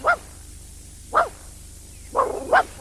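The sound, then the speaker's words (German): A dog gives four short, whiny yelping cries, spaced irregularly with the last two close together, moderately loud, with no one talking. “heul doch nicht so. Du sollst dich freuen.”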